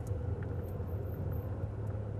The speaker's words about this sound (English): That kind of grinding. Yeah, that's when I turn to the right, it makes that sound. You can listen for it again here. Anyways, I don't know if you can hear that. But it's grinding a little.